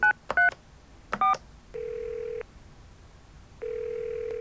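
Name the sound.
telephone number being dialed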